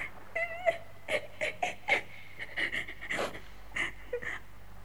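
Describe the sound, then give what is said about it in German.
A voice imitates a girl crying bitterly: a string of short, breathy sobs and whimpering gasps in an uneven rhythm, close and fairly quiet, with no words spoken. “Das kleine Mädchen erwachte früh morgens, und als es sah, wo es war, fing es bitterlich zu weinen an.”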